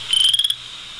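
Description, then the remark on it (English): A single short, rising trill from a western chorus frog, about half a second of rapid clicky pulses like a fingernail run along a comb, clear over a steady hiss of background noise. “the other one you'll be hearing is the chorus frog.”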